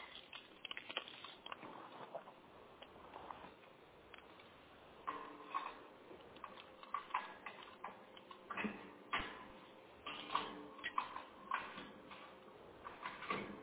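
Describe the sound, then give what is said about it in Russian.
A mechanical lock ticks and clicks repeatedly like a clock, in a steady run of sharp little snaps that grows denser and louder toward the end, with no talking. “Такой замочище, просто часы.”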